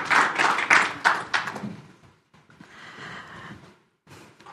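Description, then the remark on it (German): A burst of applause from an audience in a hall during a church service, loud at first and thinning out, followed by a quieter stretch of scattered clapping and background noise. “Und gebt ihr nochmal einen Applaus hier im Saal.”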